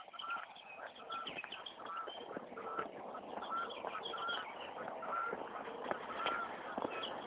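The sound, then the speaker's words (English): Geese honk repeatedly as they fly overhead, a steady stream of nasal calls from several birds overlapping over a muffled background. “Well, geese up there flying, looking for their flock.”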